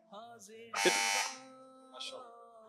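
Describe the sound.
A quiz buzzer blares once, a loud, harsh electronic buzz lasting about half a second, cutting through a man's ongoing speech, which continues before and after it.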